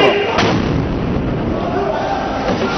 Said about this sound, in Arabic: انهالت عليهم صواريخ الاحتلال